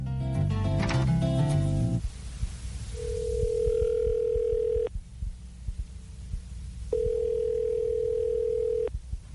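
A short burst of dialing tones, then a telephone call to the Native American Cultural Arts Council rings: two long, steady ringing tones of about two seconds each with a pause between, clear over faint low rumble.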